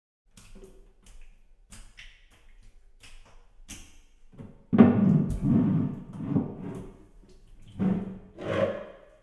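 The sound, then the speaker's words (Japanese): Faint taps and clicks at first, then water pours and splashes in several loud bursts as someone seated facing a mirror is rinsed off in a bath, with brief pauses between the pours. “それではお流ししますね。”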